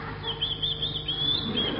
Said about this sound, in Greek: Μα κι όμως το πουλάκι κάτι λέει ακόμα.